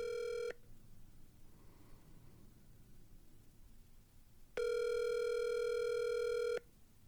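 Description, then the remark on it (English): Ringback tone of an outgoing phone call to Elliot Kalin: a steady electronic buzz-tone cuts off early on, then after a long quiet pause sounds again for about two seconds, clear and fairly loud. “Let's see if we can get him on the phone.”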